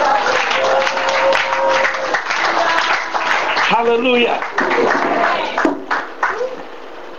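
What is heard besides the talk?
audience clapping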